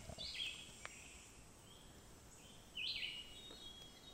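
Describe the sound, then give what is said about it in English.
A hermit thrush sings two short, fluty phrases a couple of seconds apart, soft against a quiet outdoor background with no one talking. “Over there, if you can hear that fluty thing, that's the hermit thrush, and that's that.”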